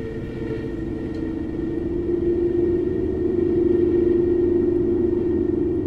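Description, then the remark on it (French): A steady, low roaring rumble of storm wind gusts outside pressing against a closed door that has slight play between the latch bolt, the lock and the frame, with a whistling drone running through it and the force swelling slightly partway through. No one speaks. “mais les rafales en extérieur. Il est pourtant bien fermé, mais il y a du jeu entre le pêne et la serrure et le dormant.”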